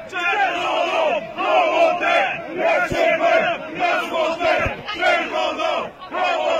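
A large crowd chants loudly in unison at a march, shouting rhythmic phrases about a second long with brief gaps between them, the massed voices steady and forceful throughout.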